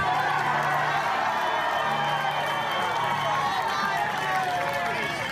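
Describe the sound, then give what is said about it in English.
A large crowd roars with sustained cheering and applause as it comes around to BLM New York's Hank Newsom, a dense, steady wash of voices and clapping that stays loud throughout, with a low droning hum underneath. “And so listen to the crowd come around, and afterwards they talk to Newsom a little bit.”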